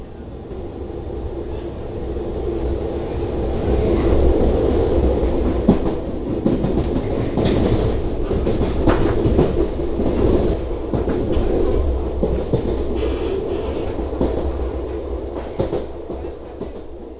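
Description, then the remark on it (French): A train rolls past on the rails with a steady clickety-clack of wheels over joints, a loud continuous rumble that swells in the middle and holds for the whole stretch, with no talking. “J'aimerais bien juste au moins qu'il y ait plus de trains qui passent et ouais, que ça dure un peu moins de temps quoi.”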